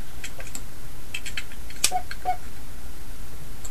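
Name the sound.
typing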